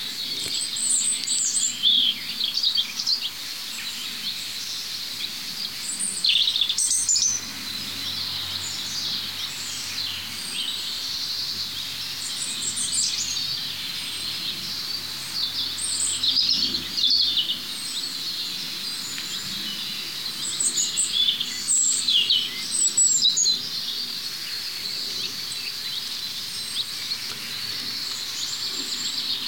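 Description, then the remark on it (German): At least three European robins sing 10 to 15 metres apart, with overlapping, thin high warbling phrases, bright trills and tweets rising over a steady hiss of background ambience, with no voices present. “wie gesagt, es sind immer noch mindestens 3 Individuen, die singen, ganz dicht aneinander, 10, 15 Meter.”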